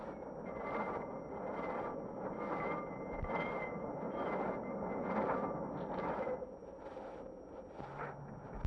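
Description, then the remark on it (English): A San Francisco cable car rumbles along its track up and down the city's hills with a steady, rhythmic clatter and whirring hum, its bell ringing, heard continuously with no one talking. “Aboard one of these venerable little cars, one enjoys a bell-ringing excursion up and down the San Francisco hills.”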